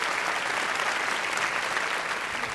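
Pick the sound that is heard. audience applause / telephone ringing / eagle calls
audience applause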